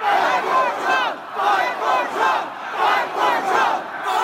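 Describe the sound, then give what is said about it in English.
A large crowd approaching the US Capitol yells the chant "Fight for Trump" over and over in a steady rhythm, many voices shouting together loudly, each burst followed by a brief dip before the next. “Once again, House Democrats used footage from that day to build their case, like this one, where a crowd approaching the Capitol yells, "Fight for Trump."”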